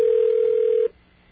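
A steady electronic telephone ring tone sounds over a phone line on a call to AT&T for just under a second. It cuts off into faint line hiss with no answer and no voices.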